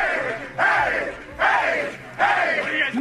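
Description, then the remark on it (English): Miami Dolphins players cheer in their locker room after the game, having beaten the Patriots, a crowd of voices shouting in three loud, rhythmic surges like a chant, each burst rising sharply and then easing off. “Dolphins locker room post game after beating the Patriots.”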